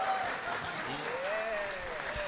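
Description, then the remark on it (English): Audience applause, a steady wash of many hands clapping at an even loudness throughout, with a faint voice or tone drifting through the background; the audience claps to show they know what the word prestidigitation means. “Can I have a hand of applause if you know what prestidigitation is?”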